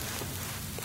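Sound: audience applause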